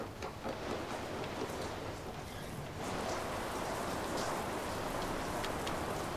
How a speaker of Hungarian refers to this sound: Odakint elerett az eső.